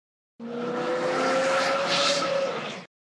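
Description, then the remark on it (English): A car speeds past on a street on a rainy day, its engine tone rising and holding for a couple of seconds with a rushing hiss of tires before it cuts off. “A car drives by very fast.”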